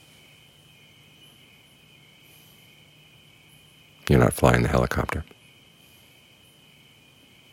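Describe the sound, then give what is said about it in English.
A steady, high-pitched chorus of crickets trills continuously in the background throughout, faint but constant, with a man's voice briefly speaking over it partway through. “And if you could see it simply as other things going on, like the crickets in the background, or that faint sound of helicopters off there, you can ignore it, because it's not you.”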